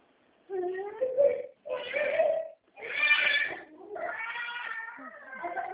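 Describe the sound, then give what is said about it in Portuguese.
A baby boy crying in a series of loud, strained wails, four or five bursts with brief gasps between them, continuing without pause to the end. “Bebezinho chorando aí”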